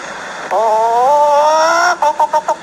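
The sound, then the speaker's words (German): A person imitates a hen: a long drawn-out rising squawk, then a quick series of about six short clucks in a steady rhythm, loud. “Red nicht, ich verstehe, sonst kann ich nicht gackern.”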